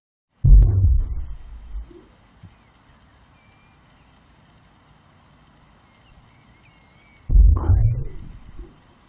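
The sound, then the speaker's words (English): Two deep, booming thuds spaced several seconds apart, each a loud low-frequency pulse that rumbles and fades, with a quiet steady hum in between — a whale's slow heartbeat. “Let's start with the heartbeat of a whale.”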